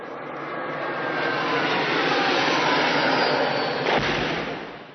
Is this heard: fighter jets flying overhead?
yes